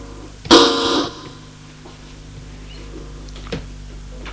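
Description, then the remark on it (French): A doorbell rings once, a loud, buzzy, harsh tone lasting about half a second, followed by quiet and a single faint click a few seconds later. “On sonne à la porte.”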